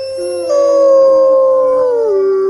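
Several wolfdogs howl together in reply to a retired army veteran's imitated wolf howl, in long, sustained, overlapping tones, one voice sliding downward near the end, loud, with no talking.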